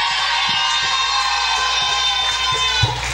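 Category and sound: crowd, audience shouting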